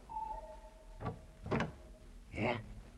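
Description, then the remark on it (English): Hotel room 307's door being opened just wide enough for one eye to look out: three short scraping, rattling bursts about half a second apart, the last one longer with a slight creaking squeal, fairly faint over a low hum. “3 minutes later, the door opened wide enough for one eye to look out.”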